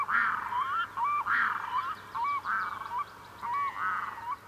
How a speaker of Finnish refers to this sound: Kaksi kaakkuria lentää ylitseni. Hetki on pysähdyttävä, suorastaan maaginen. Kaakkurien huuto yöttömässä yössä.